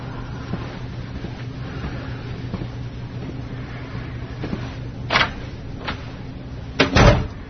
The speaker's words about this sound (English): Just close the door on your way out.